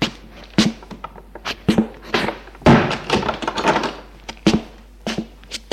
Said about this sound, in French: Elle entre et ferme la porte de chez elle.